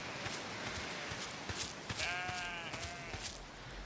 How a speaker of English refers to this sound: Oh, I think that made the sheep mad. Oh, he didn't like that. It made some unhappy sheep sound. I think it did.